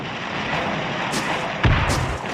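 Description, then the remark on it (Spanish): A loud, heavy explosion of a plastic-explosive bomb, thrown by paratrooper Jan Kubisch at Heydrich's Mercedes, booms out once amid a dense, rumbling wash of noise, its low thud standing out briefly before fading back into the din. “Seguidamente se oye una ensordecedora explosión.”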